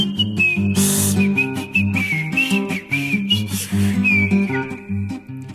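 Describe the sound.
A thin, squeaky whistled melody wavers along steadily over a full instrumental backing with bass and chords, the high tone sliding between notes like air squeezed through a rubber toy.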